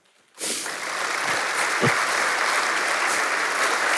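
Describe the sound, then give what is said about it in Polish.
After a brief moment of quiet, an audience bursts into loud, dense applause for a man seated on the stage, holding steady and full until the end, with no talking over it. “Moja prośba do was to są brawa.”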